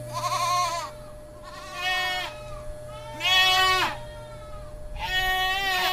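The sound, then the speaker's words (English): Angry black goats in a pen bleat four times in a row, each call loud, wavering and harsh, with short pauses between them over a faint steady hum. “Skylar can shear 10 angry goats in an hour by themselves”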